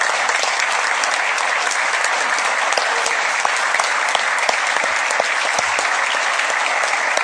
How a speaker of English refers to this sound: Wave and please everyone stand up and give them a rousing applause. Welcome.